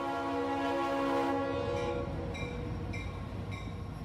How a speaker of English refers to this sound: I wasn't too loud either. I was expecting it to be much longer too, because Fort Lauderdale is notorious for its long trains.